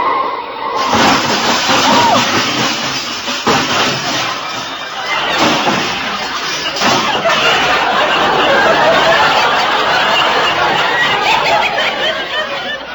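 A loud car crash erupts as a big black touring car is hit, with sharp crunching impacts and a long, dense clatter of metal as its fenders fall into the gutter, rattling on for several seconds before thinning out.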